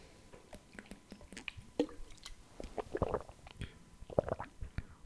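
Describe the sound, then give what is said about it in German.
Someone drinks bottled water, not tap water, from a bottle: soft gulps and wet swallowing clicks come in an irregular series over a few seconds, fairly quiet, with no talking. “Ja, Stille bedeutet jetzt hier immer, ich trinke was.”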